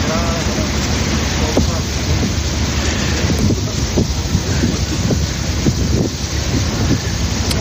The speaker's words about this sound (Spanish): A través de un ferry como este, como hemos hecho nosotros, muchos ucranianos consiguen cruzar cada día el río Danubio hasta Rumanía.